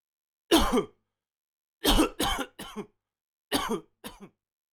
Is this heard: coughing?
yes